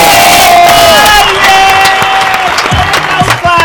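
A loud crowd applauds and cheers, dense clapping mixed with shouts and whoops that hold steady for a few seconds, with scattered individual voices rising above the noise.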